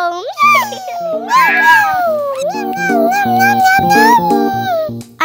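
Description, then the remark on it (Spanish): A long, wavering cat meow stretches and bends in pitch for several seconds, loud, over light background music. “¡Un gatito!”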